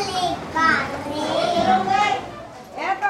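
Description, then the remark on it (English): Several toddlers sitting in a circle on a concrete floor in a tin-shack daycare center on a muddy construction site in Mumbai chatter and babble in high-pitched, overlapping voices, steady throughout, with a few louder calls rising above the indoor murmur. “A group of toddlers sit in a circle on a concrete floor as a teacher gently applies baby powder and helps dress them one by one.”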